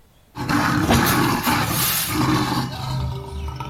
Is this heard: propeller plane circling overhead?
no